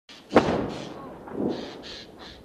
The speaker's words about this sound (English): From his office overlooking the Lebanese border with Israel, Dr. Munis Klakesh says he can hear the thump of artillery rounds and airstrikes landing on nearby towns.